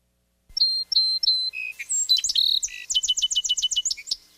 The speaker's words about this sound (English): Song Sparrow is number 9. They have kind of like a 3-part song.